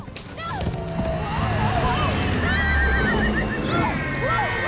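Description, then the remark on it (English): Loud horse neighs and whinnies rise and fall repeatedly over a steady drumming of galloping hooves, dense and continuous throughout. A ridden horse gallops through a forest after a wagon, its rider bouncing on its back. “leaves smacking her in the face as she bounces on the horse's back.”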